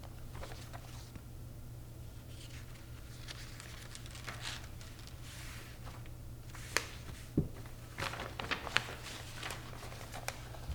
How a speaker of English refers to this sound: Turning pages, folks.